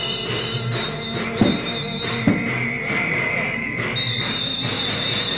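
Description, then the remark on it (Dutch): A tram rolls along Breestraat with a steady high metallic wheel squeal, two sharp knocks along the way, and a low rumble and crowd murmur underneath. “De tram wordt versierd met een krakensteken, gaat door.”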